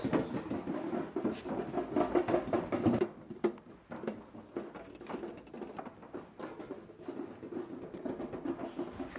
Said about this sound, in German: Am frühen Abend hüpfte das Eichhörnchen durch den Schnee.